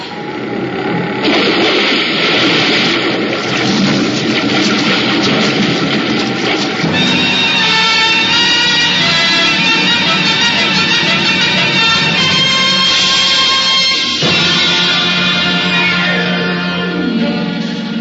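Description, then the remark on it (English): A plane crash-landing on water in strong wind: a loud, sustained roar and grinding rush, joined midway by shrill metallic whines and screeches that shift and change pitch, with no voices. “The impact of the landing threw me against the wall of the fuselage, but a moment later, the sound of water rushing in through the loading doors brought me around fast.”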